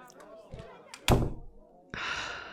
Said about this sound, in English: Quick, close the door before they come and bother us, please.